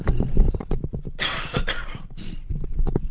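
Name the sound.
a short cough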